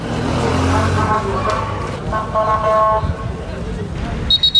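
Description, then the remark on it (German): Chaotic street noise in the border town of Vnideck, next to Ceuta on the North African coast: loud wailing ambulance sirens and honking over traffic, crowds of young men shouting throughout, and a few sharp high police whistle blasts near the end. “Die Sirenen der Krankenwagen, die Pfiffe der Polizisten, das Geschrei der vielen jungen Männer.”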